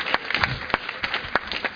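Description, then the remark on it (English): An audience clapping as a clap of praise to the Lord, with sharp irregular claps rising out of a dense, steady patter of applause, moderately loud with no voices over it. “Give the Lord a clap of praise for yourselves.”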